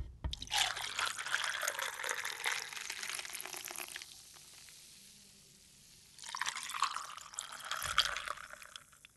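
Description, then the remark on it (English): Dr Pepper soda pours over ice for an amaretto drink in two bursts, a hissing, crackling carbonated splash broken by a short quieter pause, with no talking. “Then you're going to take 2 ounces of regular old Dr. Pepper. Okay, I think I've got it. Poured over ice?”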